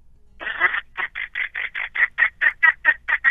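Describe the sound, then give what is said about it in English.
A person imitates a duck with a long opening quack followed by a rapid, steady run of about twelve short, nasal, raspy quacks, loud and alone. “I have called the duck out of the air with this one.”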